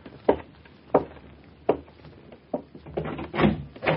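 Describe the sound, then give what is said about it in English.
A door being opened: a few sharp wooden clunks spaced about a second apart, then a busier stretch of rattling and handling noise as it swings open. No one speaks. “You stay there in your swaddling clothes, and I'll see to the door.”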